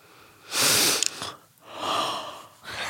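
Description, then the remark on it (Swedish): A person lets out a long, breathy yawn: a strong airy inhale followed by a drawn-out exhale, fairly loud, with no talking around it. “Gäspar.”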